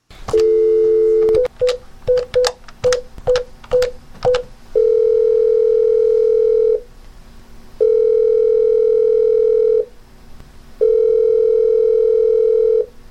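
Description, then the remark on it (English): A steady telephone dial tone gives way to a quick run of keypad beeps, then three long ringing tones with pauses between them, all clear with no voices, as a call is placed to the Old Kentucky Tales phone line to hear a message. “And now I think we need to go to the phones and listen to this message that we got.”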